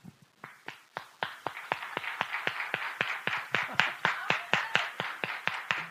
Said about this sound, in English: Okay, now we're going to try synchronized clapping. So that, like, clapping all together at the same time. So maybe I'll just set the tempo.